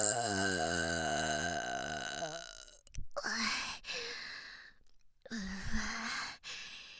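A long, loud, croaky burp right up close, rumbling and wavering for about two seconds, followed by a few heavy breathy exhales and sighs.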